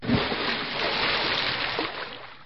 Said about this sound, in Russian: Но камни были такими тяжелыми, что волк не удержался и упал в реку.